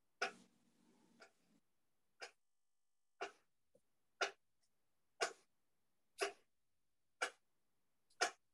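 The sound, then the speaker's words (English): A strange, steady ticking: sharp, fairly loud clicks spaced about a second apart, repeating seven times after a brief burst of rustling noise, with no one speaking. “what is that strange ticking?”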